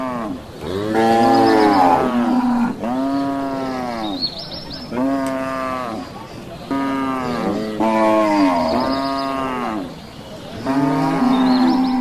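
Several loud, drawn-out cattle moos follow one another in close succession, deep and bellowing with strong harmonics, some overlapping, with no talking.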